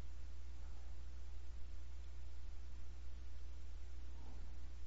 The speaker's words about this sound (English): And then, with my eyes closed, I hear the fan running in the background. I hear the hum of the fan on the computer.